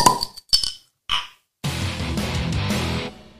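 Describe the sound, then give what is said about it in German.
A few sharp glassy clicks and a short pop open a flip-top bottle, followed by a steady rushing fizz of pouring that runs for over a second before cutting off. “Lass uns mal wieder ploppen.”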